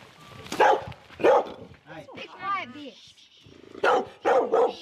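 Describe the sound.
Several dogs bark in sharp bursts, with some higher yips and whimpering whines in between, loud, at the farm kennels of Glen Ann Station in the Canterbury High Country; a person can be heard speaking faintly underneath.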